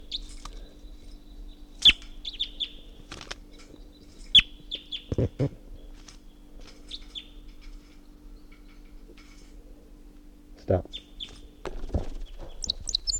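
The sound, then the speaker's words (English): A wild bird up in a tall pine above a net gives its flight song in bursts of short, high chirping notes, scattered irregularly over a steady low hum, with a few sharp clicks and one brief spoken word. “Wild bird flight song.”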